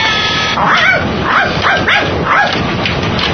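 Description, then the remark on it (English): A small dog, Skippy, barks and yips in quick succession, about five sharp, high-pitched bursts in a steady rhythm, fairly loud with no one speaking. “Stop it! Stop it! Bad dog! Bad dog! Bad dog!”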